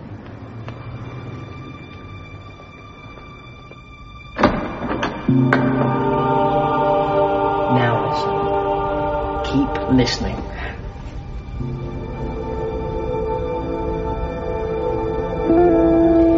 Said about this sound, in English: Now listen. To the traffic and the shopping.